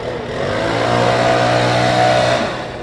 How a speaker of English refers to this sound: Philly launched the pilot to see if it could clean city streets without making residents move their cars, something people have griped about here for years. The linchpin to this plan, gas-powered leaf blowers.